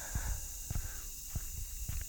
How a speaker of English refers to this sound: And it's a black night. And there's no moon at all. And the only human sound is my footsteps on the ground.